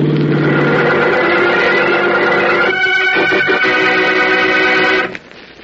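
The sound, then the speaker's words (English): A car engine revs loudly as the car heads toward a boy who has just stepped off a bus, in a steady, droning roar that shifts into a rougher, choppier tone midway, then cuts off abruptly near the end. No one speaks. “Look out for that car, Howard.”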